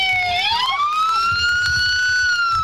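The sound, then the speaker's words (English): A loud siren wails continuously, its tone sweeping upward and then holding a high, steady pitch, with a low rumble of traffic or engine noise underneath. “The only regret I have is that you couldn't really hear her yelling out over the siren.”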